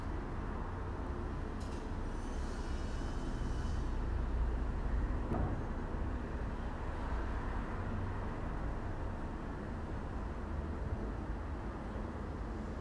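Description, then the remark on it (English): Steady city traffic rumbles continuously with a dense low roar, while a few sharp metallic clanks from construction work cut through now and then. No one speaks. “Cars, construction, possibly an airplane or a helicopter.”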